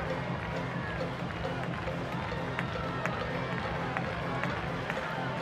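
A baseball stadium crowd keeps up a steady, dense roar of voices and cheering, hoping for a game-tying hit or a Vientos home run to take the lead, with scattered sharp claps and shouts poking through. It never swells into a burst and no single voice stands out.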